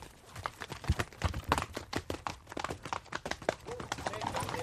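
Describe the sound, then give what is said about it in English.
Horse hooves clip-clopping in a quick, steady rhythm of sharp knocks, with several animals moving together and a constant outdoor rumble underneath. “So he goes on, I take the lame horse back to the meet.”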